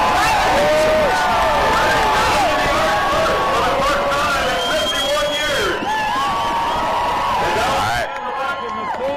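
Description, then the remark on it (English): A loud, dense crowd hubbub of many overlapping voices at an official check-in, steady and unbroken, with rising and falling cries woven through the chatter until it drops off slightly at the very end. “I don't know if you can hear me above all the hubbub.”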